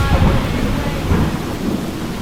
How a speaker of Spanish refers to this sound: La lluvia en un bosque de Fiji es una sinfonía de sonidos en un entorno de verdor. En alguna parte por encima de las copas, las gotas de lluvia golpean las palmeras que se mueven graciosamente con el viento.